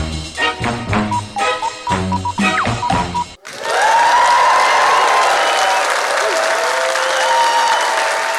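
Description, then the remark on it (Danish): A few seconds of upbeat music give way to a sudden, sustained roar of applause and cheering from an audience of about 1800 people at Bremen Teater, dense and loud with occasional whoops rising above the clapping. “Wow! Hold da op! Sikke en modtagelse her.”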